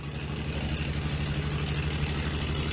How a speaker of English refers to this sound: As you can hear in the background, the Yugoslav salvage men have put the pump into operation. The pump is pumping water into the 80-ton floating crane.